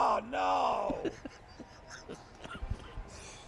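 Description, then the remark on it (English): A person lets out a loud, drawn-out yell that rises and then sags for about a second, followed by scattered soft knocks and muffled movement with no talking. “I'm not even saying you're wrong, yelling in the background.”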